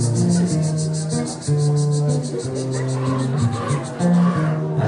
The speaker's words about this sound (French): Quand tu te promenades sur les hauteurs de Taforalt, mon petit village du nord-est du Maroc, ou sur cette piste qui monte, caillouteuse et douteuse, on peut entendre chanter les cigales.